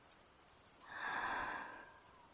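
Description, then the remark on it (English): A single long, drawn-in sniff, swelling and then fading over about a second, breathy and soft with no talking around it. “You okay if I sniff you more?”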